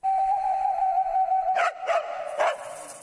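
A dog lets out a steady, high-pitched whine, then breaks into three sharp, loud barks in quick, uneven succession, with no talking.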